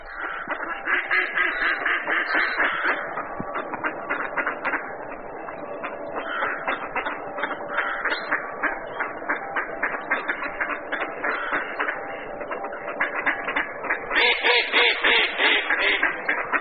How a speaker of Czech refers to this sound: Myslím, že by se nenašel nikdo, kdo by nepoznal, že tím hlasitým kácháním, které jsme před chvíli slyšeli, se ozývá naše nejobyčejnější kachna, kachna divoká, častěji známá jako březňačka.